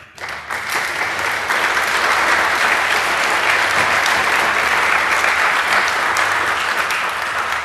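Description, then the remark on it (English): An audience at a talk applauds the speaker steadily, the dense clapping rising quickly and holding at a loud, even level throughout without any voices breaking through. “And well, until everybody stands there, again, please a nice applause for”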